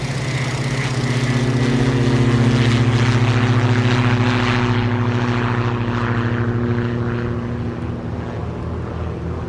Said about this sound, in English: They push us to like the beginning of the runway. It was a smooth takeoff, for sure.